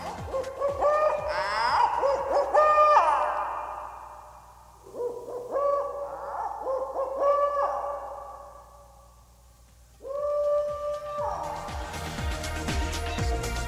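An owl hoots loudly in three long, wavering bursts separated by short pauses, with no talking and a faint hiss underneath.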